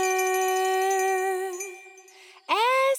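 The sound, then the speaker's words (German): A loud hand bell rings out with a long, sustained tone that slowly fades, then strikes again sharply near the end, with no voices; it is rung in the morning in a mountain setting. “MacGyver und Vito wachen auf von einer Glocke, die Heidi laut läutet.”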